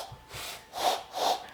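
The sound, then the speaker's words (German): A person attempts an owl call using a trick with the hands, producing two breathy, airy hoots with a faint mid-pitched tone after softer puffs of breath. It sounds more like blowing and snorting than a clean hoot. “Eine Eule, wenn die Durchfall hat, so hört sie sich vielleicht an.”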